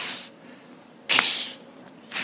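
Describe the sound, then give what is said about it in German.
A voice doing mouth percussion imitates a hi-hat and cymbal with three bright, hissy "ts" bursts, made while grinning, roughly one per second, each a short crisp spray of high noise with quiet gaps between and no talking. “Dann kommt dieser helle Sound von Hi-Hat und von Becken zustande.”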